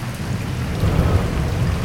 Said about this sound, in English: By 8 a.m., it was raining hard, real hard.